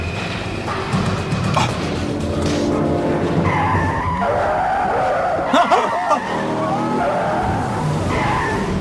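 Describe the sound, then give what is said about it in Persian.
An old beat-up car races along at high speed, engine roaring steadily with sharp tire squeals and skidding bursts, loud throughout, with faint voices in the background. “ماشین رو نگه دار. اگه موقع مرگتون نیست بعد چرا میترسین ها؟ من میتونم یکی چراغ قرمزم رد کنم، فقط اون فرم خودتون رو خراب کنم.”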